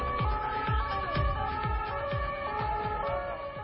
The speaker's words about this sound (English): The sound of sirens responding to the scene of a truck crash in Nice, France, Thursday is captured by BFM-TV.